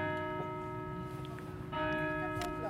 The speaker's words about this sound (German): Sagt die bald 100-Jährige und hört die Glocken läuten.